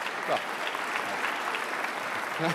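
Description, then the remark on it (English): A steady wash of audience applause, a concession clap, many hands clapping at an even level throughout, with a few faint murmured voices slipping in near the start and end. “It's a concession clap.”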